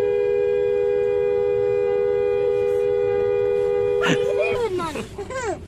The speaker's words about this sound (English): You're great. We love the sound of your honking horn.